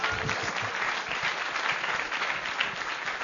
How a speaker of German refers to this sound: Super. Kleiner Applaus, hat er verdient.